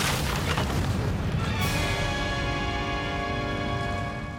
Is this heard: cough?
no